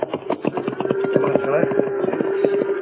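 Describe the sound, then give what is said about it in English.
Horse hooves clip-clop uphill in a steady, fairly quick rhythm, each hoofbeat sharp and distinct, with a continuous low droning tone running underneath. “Come on, horse. Up that hill.”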